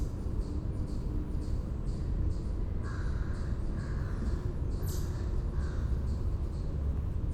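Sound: single crow cawing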